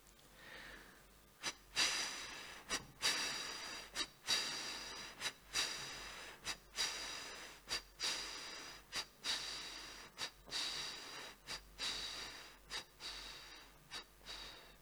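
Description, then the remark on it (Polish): A voice imitates a chugging train as a breathing exercise, blowing air out on the consonant F in a long run of breathy "fff" puffs in a steady, rhythmic pattern on one exhalation, with short pauses between bursts and no talking. “Będziemy wydmuchiwać powietrze na spółgłosce F w taki specyficzny rytm kolejowy, nazwijmy to, dobrze?”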